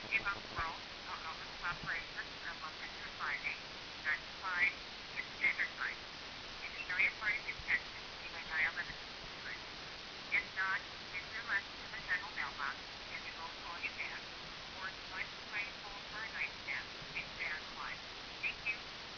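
Tinny, band-limited hold music plays steadily over a phone line while on hold calling E-Bombs World, its melody muffled and thin as if heard through a handset, continuing without a break for the whole stretch.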